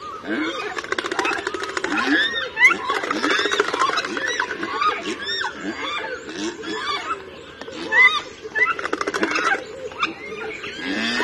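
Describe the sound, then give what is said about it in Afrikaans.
Rapid, dry clattering of a large bird's bills rattles on throughout, mixed with harsh, grunting and squealing calls that rise and fall. It's fairly loud and busy, with no talking. “Al is hulle meeste van die tyd stil, maak hulle 'n klank deur hulle snavels te klap wanneer hulle bedreigd voel en hulle het wel so 'n bietjie van 'n roep ook.”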